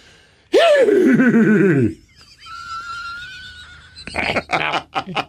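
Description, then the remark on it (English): A person's voice imitates a horse whinny: one loud, shaky, wavering call that slides downward in pitch for over a second, followed by a quieter pause and a few short breathy bursts. “All right, let's try horse.”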